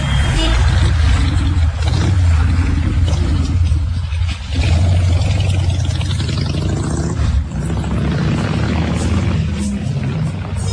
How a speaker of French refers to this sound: Ah, c'est les taxis. C'est les taxis.